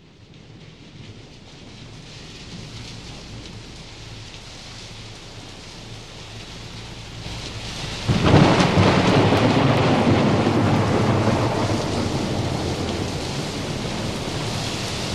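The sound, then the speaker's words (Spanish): Steady rain hisses throughout, then a loud crack of thunder breaks in partway and rolls into a long, heavy rumble over the continuing downpour. No one speaks. “Y vamos a empezar hoy cabalgando en la tormenta.”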